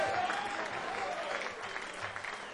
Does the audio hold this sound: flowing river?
no